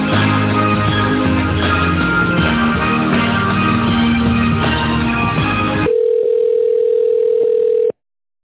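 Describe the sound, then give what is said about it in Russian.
A telephone line tone on an unanswered call: about six seconds of dense, buzzy musical tones, then a steady mid-pitched tone holds for two seconds before cutting off abruptly. No voices. “Вернулся звонок, не взяли трубку, звоните позже.”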